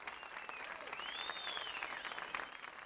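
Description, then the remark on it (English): An audience applauds steadily for a few seconds as a show's host is introduced, a dense wash of clapping with scattered cheers and what sounds like a brief whistle rising above it. “Don't you love that applause?”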